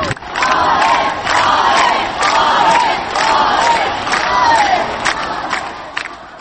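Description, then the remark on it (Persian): A large concert audience cheers and applauds a well-known singer, who is among the spectators, loudly and continuously, a dense roar of voices with whoops and shouts rising and falling in waves, with no speech over it. “در میان تماشاچیان … خواننده معروف … هم حضور داشت و مورد تشویق تماشاچیان قرار گرفت.”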